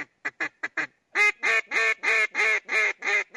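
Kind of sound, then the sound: tool, duck call being blown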